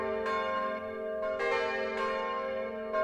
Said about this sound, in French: Aujourd'hui, grand jour de la Noël, toutes les cloches sont en branle et toutes les rues en fête. Le clocher de Saint-Éloi se démène comme un beau diable, ding, dang, boum, et sème ses lourdes notes à tous les vents.